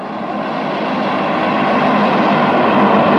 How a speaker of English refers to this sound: Well, we say a lot, they tell us a lot that they're drones, and the drones are very quiet. You can hear just an airplane. Okay, there's your predator drone.